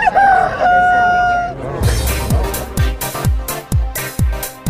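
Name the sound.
rooster crowing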